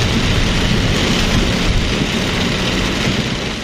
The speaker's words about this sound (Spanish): Isto que escoitan é como golpeaba a choiva esta mañá a iso das 7:30 no parabrisas do coche.